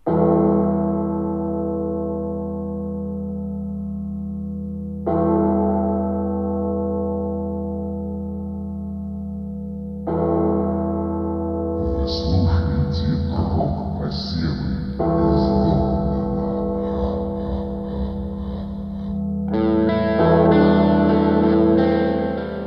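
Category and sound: signal or alarm, funeral bell tolling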